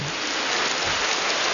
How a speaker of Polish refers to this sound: Jak widać, Ślązaki wytrwały nie tylko w modlitwie, ale jeszcze mają siłę klaskać na sam koniec.